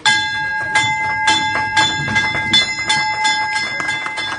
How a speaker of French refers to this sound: La cloche qui retentit pour saluer l'entrée en bourse de la Française des Jeux, c'était ce matin.